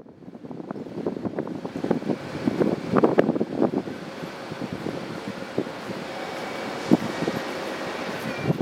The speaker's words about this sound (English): In Prague, I spent hours at the train station. I watch the trains come and go